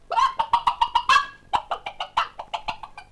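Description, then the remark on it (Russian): A hen clucks in a chicken coop in a quick, steady series of about fifteen bright clucks over a few seconds, with a brief pause midway and no voices. “И курочка даже моргнуть не успела, как очутилась в королевском курятнике.”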